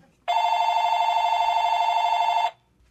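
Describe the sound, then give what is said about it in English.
A telephone rings in one loud, steady burst of about two seconds, a bright buzzing electronic trill with a fast warble, then stops abruptly. No one speaks. “All right, now what is with this Farcat phone?”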